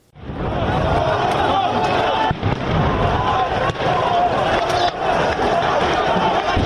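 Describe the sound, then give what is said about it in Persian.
Several sharp blasts of explosions, heard with air-raid sirens in Jerusalem after several rockets were reported fired at the city, break through a dense, continuous roar of crowd noise and commotion, with a few distinct bangs spaced a second or so apart, fairly loud. “شنیده شدن صدای چندین انفجار و آژیرهای حمله در اورشلیم یا بیت المقدس.”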